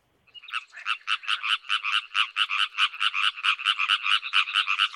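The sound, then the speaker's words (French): A frog croaks in a rapid, steady series of raspy pulses, about twenty in under five seconds, loud, with no voices. “Voilà, nous parlons des amphibiens dont font partie les grenouilles et les crapauds notamment, mais aussi les salamandres, les axolotes, toute une diversité d'espèces”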